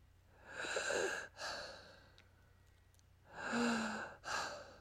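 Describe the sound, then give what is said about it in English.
A voice imitates heavy breathing heard at night with the lights off: two long, raspy breath cycles, each a drawn-out airy inhale or exhale followed by a shorter breath, fairly loud with a quiet pause between them. “And all of a sudden, with all the lights off, I start hearing this breathing and I'm going to do a replication of it.”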